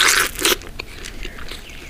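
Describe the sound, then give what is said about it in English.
A crisp bite into a freshly picked raw okra pod: two quick crunching snaps in quick succession, followed by softer, fainter chewing sounds. “I go in and pick and eat this one right here.”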